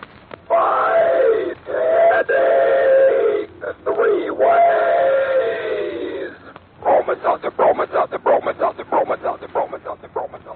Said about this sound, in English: She's coming around the bend, she is. Who is? Why, our own educated box pop train. You can't mistake that whistle.